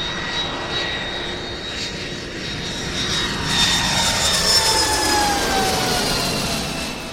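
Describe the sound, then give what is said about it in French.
A jet airliner's engines roar steadily at Charles de Gaulle airport, with a high whine that slowly drops in pitch as the noise swells and then eases slightly. No one speaks. “Quand je descends de l'avion à l'aéroport Charles de Gaulle, le froid.”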